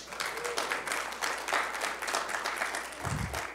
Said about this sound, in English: Oh, Thank you, sir. Man, he is good. You can give him an applause, you know.